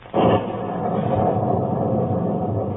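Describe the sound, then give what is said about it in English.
A sudden loud crack of thunder breaks in, then rolls into a long, steady low rumble that fills the rest of the moment without fading. “What's that? Thunder?”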